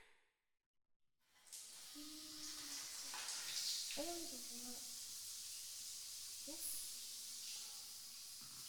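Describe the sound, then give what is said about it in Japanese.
After a second of silence, a hotel shower bursts on into a steady, bright hiss of spraying water that keeps running, with faint low humming tones and soft vocal sounds beneath it. “それじゃ、シャワー浴びちゃいましょうか。”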